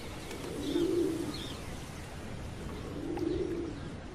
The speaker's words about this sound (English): Pigeons gather on a nearby temple's domed roof.